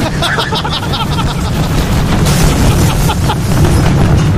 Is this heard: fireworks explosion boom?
yes